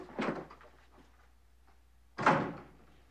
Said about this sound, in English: He hangs up, then strides out the front door.